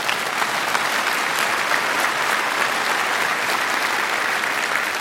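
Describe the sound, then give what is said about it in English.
Steady, dense applause from an audience, a continuous wash of many hands clapping at even loudness for the full five seconds, with no voices rising above it. “You can clap. Go ahead.”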